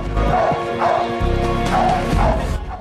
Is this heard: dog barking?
yes